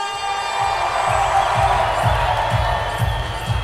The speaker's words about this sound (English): So ladies and gentlemen, give everything you've got in the way of applause for Luke Skywalker!